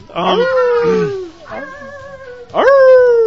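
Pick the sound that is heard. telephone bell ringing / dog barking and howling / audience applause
dog barking and howling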